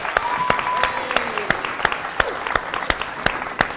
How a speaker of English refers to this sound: Let's give everyone who's taking part a big round of applause.